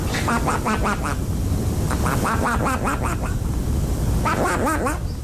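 Flatulence by a man imitating a duck's quacks, performed in a garden, coming in three quick bursts of nasal, honking pulses with pauses between, over a steady low rumbling background noise.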